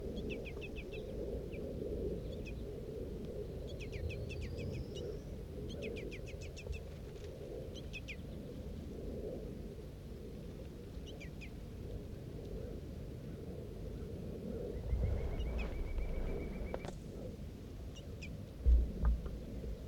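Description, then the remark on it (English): Birds call repeatedly in short bursts of thin, high chirps, with a brief sustained whistle later on, over a steady low rumble of background noise, while a female feeds a juvenile in a tree; no one speaks. “The juvenile was being fed by the female a little while back.”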